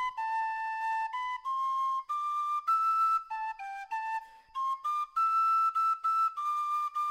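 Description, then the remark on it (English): A penny whistle plays the slow, lilting traditional tune Nova Scotia Farewell alone, clear bright notes stepping up and down with brief breaths between phrases, steady in volume. “Our theme music is Nova Scotia Farewell, a traditional tune performed on the penny whistle by the author of these stories.”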